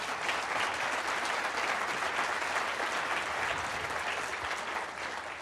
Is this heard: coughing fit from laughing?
no